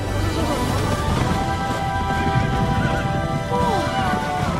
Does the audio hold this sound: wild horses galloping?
yes